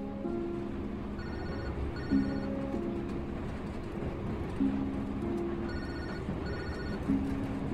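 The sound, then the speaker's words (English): A phone rings in repeated bursts of bright, electronic tones that cycle in a steady pattern, heard over a constant low rumble of background noise, as a call comes in from a caller in her car. No one speaks. “Alex calls him from her car.”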